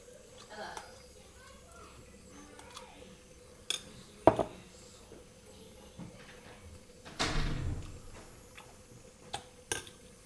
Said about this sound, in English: Eating my cornflakes